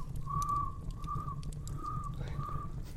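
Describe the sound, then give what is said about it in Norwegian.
Galapagos finches, out of their cages in the middle of the night, chirping in a series of four drawn-out, whistle-like notes at a steady pace, clear, over a constant low rumbling background hum. “Ja, det er snakk om, de finkene som vi tok med fra Galapagos.”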